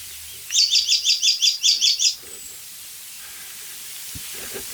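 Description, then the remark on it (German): An icterine warbler perched in an oak sings a mimicked phrase, imitating a blackbird's alarm call: about nine quick, high, scratchy chirps repeated in a steady rhythm, clear, followed by a quiet outdoor background. “Wir lassen den Gelbspötter weiterziehen.”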